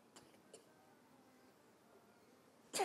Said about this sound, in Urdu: کھانسی بھی آ گئی میرے بچے کو.